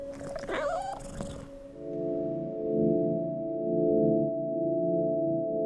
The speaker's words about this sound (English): But then we had a cat, so I just kind of thought, "Oh, it must have been the cat."